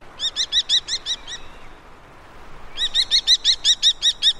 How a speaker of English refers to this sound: The sound of a common kestrel.